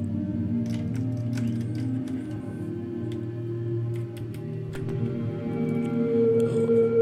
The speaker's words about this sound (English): I'll plug it straight into the mixer, and then I'm going to use an effect send here to the Desmodus Versio, which is a reverb. I don't think you can really find a better reverb for, 8 HP or 10 HP. It's just tiny and it just sounds awesome.